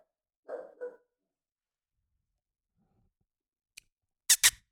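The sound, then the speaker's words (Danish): The speaker's own dog barks twice in quick succession, then after a pause gives a couple of sharper, louder barks, with no talking over it. “Jeg har en hund, der gør der.”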